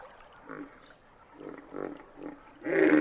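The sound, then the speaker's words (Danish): A hippopotamus call: four short, rhythmic, low grunting bursts, then a louder, longer, rumbling bellow at the end. No one talks over it. “så sagde mor Grete en lyd, som Michel Elba elskede mest af alt. Det var en lyd, som ingen andre dyr kunne sige.”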